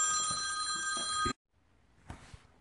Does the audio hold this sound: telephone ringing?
yes